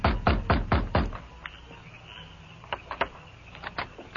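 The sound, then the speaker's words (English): A fist pounds heavily on the wooden back door of a sheriff's office in a quick burst of about five loud, booming knocks, followed by a few softer, scattered thumps after a brief pause. “Then he pounded on the door.”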